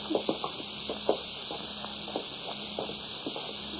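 Footsteps walk down cellar steps in an uneven series of soft thuds and scuffs, set against a steady high hiss. No one speaks.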